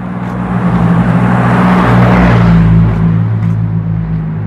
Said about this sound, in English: A lot of traffic, huh? People have been moving in this city, I guess. It's like a constant flow of cars. You know, who knew? Youngstown. Constant flow of cars.